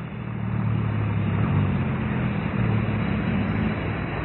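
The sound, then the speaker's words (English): A car engine drones steadily with a low, humming rumble as the car comes up a hill, holding a fairly even level for a few seconds with a slight rise and fall in pitch as it labors along. “There's a car coming up the hill.”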